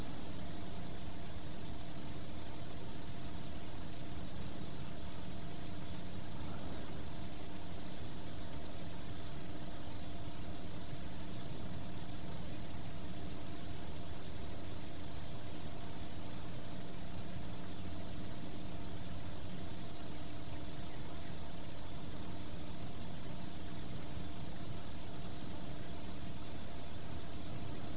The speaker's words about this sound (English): And I'm so upset that I go and get in my car and I drive back to the motel.